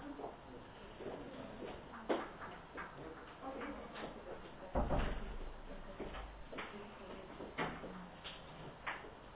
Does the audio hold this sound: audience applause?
no